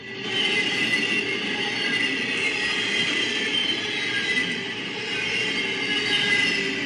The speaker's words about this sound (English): So this original noisy was sent in by Quinn English, and this is actually a cargo train passing right in front of the car. They recorded it. That's the sound you get.